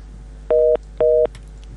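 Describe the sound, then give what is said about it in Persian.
Two short, steady electronic telephone beeps, evenly spaced about half a second apart, as a listener's phone call to Radio Azadi is cut off, heard clearly over a faint background hum. “متاسفانه که تماسشان قطع شد.”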